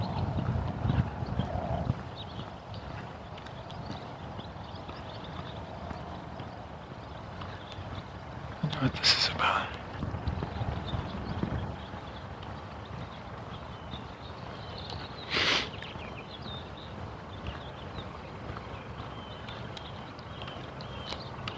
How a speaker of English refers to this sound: there's an interesting buggy coming down the street.